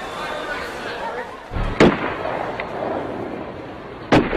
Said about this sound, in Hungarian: 17 óra 17 perckor váratlanul 3 fülsüketítő lövés visszhangja töltötte be a Szentpéter teret.